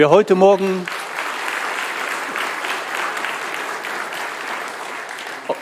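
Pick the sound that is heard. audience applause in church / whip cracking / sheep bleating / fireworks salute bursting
audience applause in church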